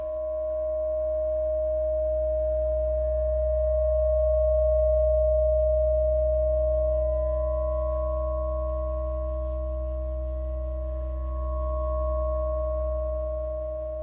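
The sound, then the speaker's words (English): A static guitar drone hums steadily and unchanging, with layered harmonic overtones ringing clearly above a deep low rumble, sustained throughout with no voices. “where they're playing around with harmonics in a different format. That leads me right into now, you know, where the kind of guitar solos I'm doing.”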